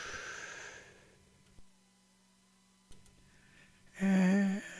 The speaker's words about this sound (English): Just give your lungs that ballooning sense of breathing. All right? One, two, three. Fill your lungs.